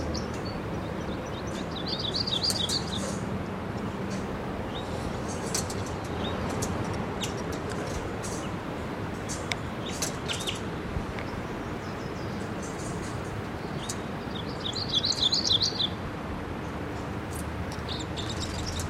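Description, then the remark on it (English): Bird calls over steady outdoor noise, with two bursts of high twittering chirps near the start and end and scattered brief tweets between them, from at least two or three birds. “Well, there's more than one bird here. Maybe at least two or three.”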